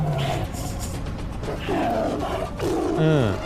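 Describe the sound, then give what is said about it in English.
A CGI Siberian tiger roars several times in loud, growling bursts with falling pitch, dominant, in a scene from the movie Pork where Neil Breen fights the tiger, set against a dense, noisy film soundtrack background. “It is Neil Breen fighting a tiger, a very bad CGI tiger.”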